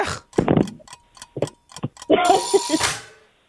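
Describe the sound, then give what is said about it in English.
A quiz countdown timer for answering a trivia question ticks with a series of sharp, evenly spaced clicks, then ends in a louder, fuller burst of bright tones before fading out. “Here's your timer.”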